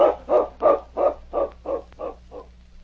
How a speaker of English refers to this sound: It was several hours later when Sergeant Preston, who was sleeping in the cabin of the constable at Upper LaBarge, was awakened by barking and scratching at the cabin door. What's that? Sounds like my dog King